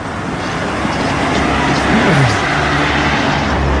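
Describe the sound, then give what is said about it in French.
Steady street traffic rumbles among cars with diplomatic corps licence plates, with a car driving past midway as its engine pitch drops. The roar stays loud and continuous throughout, with no one speaking. “Alors encore une fois, là, on est cerné de voitures avec des plaques d'immatriculation du corps diplomatique.”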